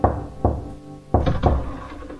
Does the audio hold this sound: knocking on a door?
yes